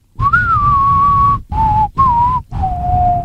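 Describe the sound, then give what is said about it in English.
A spaghetti western film theme melody whistled clearly: a long gliding opening note followed by three shorter phrases, separated by brief pauses, with no talking. “Its theme song has a whistle.”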